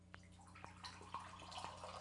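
A drink is poured from a can into a glass, a steady watery rush broken by small drips and splatters, fairly quiet, with no talking.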